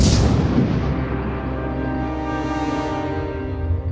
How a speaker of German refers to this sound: aktiviert Hera die Bordkanone. Ein paar gezielte Schüsse und der T-Jäger ist Geschichte.